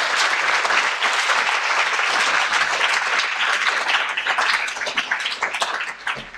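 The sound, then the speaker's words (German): A crowd applauds loudly and steadily, many hands clapping in a dense wash of sound that holds strong for several seconds before starting to thin out and fade toward the end. “Der Applaus gilt Bruce Lee.”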